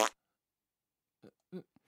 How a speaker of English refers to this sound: Now, flatulent sound effects just aren't funny in any situation. Well, they're no, just we're not laughing at them. We don't find fart sound effects funny.